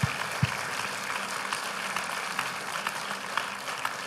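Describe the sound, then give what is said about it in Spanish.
An audience applauds the Lord, a dense wash of overlapping claps with occasional sharper individual claps standing out, holding at an even, moderate level throughout with no one speaking. “Entonces aplaudo al Señor, por favor.”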